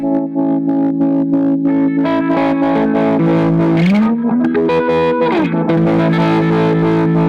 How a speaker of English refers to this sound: And here's the flanger. It's an old Boss. So it's pretty similar, but I stack those two.